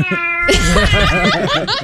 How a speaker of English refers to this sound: Have you ever heard felines going at it? My goodness, that tomcat is really into it.